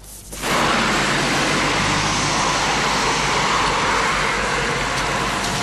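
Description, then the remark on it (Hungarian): Loud, steady roar of road traffic on a busy European main road, rising quickly at the start and then holding as a continuous rush of passing vehicles, with no voices. “Ez a jelenet ma minden európai főútra jellemző volt.”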